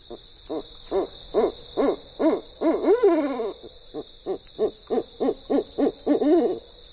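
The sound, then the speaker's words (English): An owl hoots in a steady series of short, repeated calls, some rising into quavering, wavering notes, clear against a constant high-pitched insect drone of a night backdrop. “And they lend their music to our nights.”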